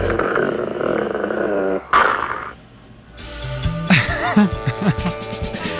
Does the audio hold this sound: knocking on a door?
no